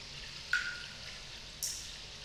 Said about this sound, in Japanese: わしの顔から垂れた汗の水しぶきにびっくりする？それはまあ我慢せよ。